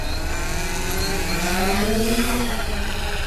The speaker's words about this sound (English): She holds the foot-long drone above her head, and Moore launches it out of her hands, 200 feet into the pale blue sky.